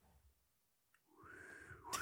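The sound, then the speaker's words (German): A brief, quiet whistle of the wolf motif: a single held, mid-high note that sags slightly in pitch for under a second, ending in a short burst of noise. “Und möchtest du noch zum Abschluss dieses Five-Leitmotiv von dem Wolf machen?”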